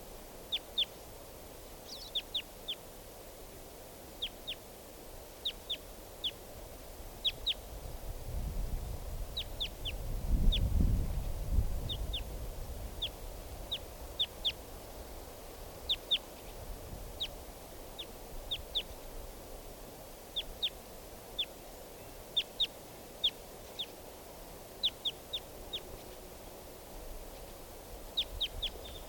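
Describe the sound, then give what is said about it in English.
Wild bird calls: short, high chirps repeated in quick clusters throughout, over a soft background hum with a low rumble swelling briefly midway. No one speaks. “Wild bird.”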